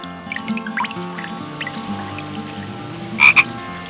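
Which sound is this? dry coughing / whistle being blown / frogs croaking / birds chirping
frogs croaking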